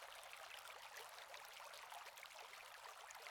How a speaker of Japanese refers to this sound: 川がありますよ。ほら、あそこです。